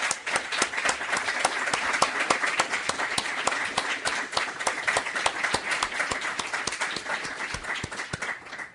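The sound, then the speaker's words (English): Steady audience applause for keynote speaker John DiIulio and four panelists, dense overlapping claps with sharp bright transients, holding an even loudness throughout with no voices heard over it. “And I think we all owe them not only a debt of gratitude, but a round of applause for their contributions.”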